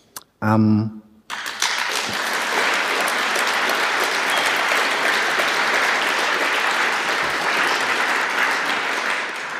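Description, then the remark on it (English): A brief tonal voice-like burst opens, then sustained audience applause for the event's sponsors, helpers and volunteers fills the rest: dense, steady clapping from many hands at an even, loud level without pauses. “And while you're applauding, thank you also to all our helpers who helped us doing all the work that was required, all the volunteers, and thank you to the visitors without whom the whole thing would have been really empty.”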